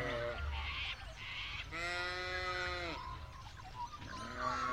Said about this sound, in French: C'est le moment où on donne à manger aux moutons. Les Suffolk Sheep, les moutons de Suffolk. Et tout ça se passe à Littlehampton, en Australie du Sud.